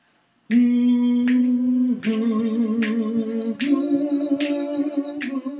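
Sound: finger snapping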